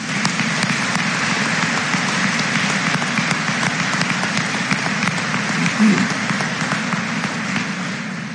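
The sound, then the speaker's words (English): A large audience claps steadily for several seconds for student scholarship recipients, a dense, sustained wash of applause without pause before it starts to taper slightly at the end. “Please join me in giving these students a round of applause.”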